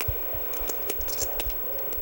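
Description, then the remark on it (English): Poker chips click and clatter in quick, irregular bursts of sharp little taps, continuous, as players in a Texas Hold'em poker tournament shuffle their chips, with no one talking. “All you're hearing is people shuffling their chips here.”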